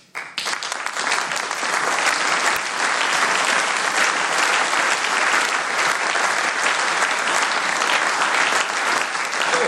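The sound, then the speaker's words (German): Sustained audience applause during a speech, a dense, steady wash of many hands clapping that starts abruptly and stays loud and even for nearly ten seconds, with no speech over it. “Und wenn das Letzte richtig ist, was Sie jetzt freundlicherweise durch Ihren Beifall bekräftigt haben, was übrigens auch noch nicht der Nachweis der Richtigkeit, aber doch eine willkommene Bestätigung einer offenkundig nicht ganz abwegigen Auffassung”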